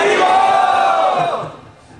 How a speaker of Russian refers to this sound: Громко Харибол крикните.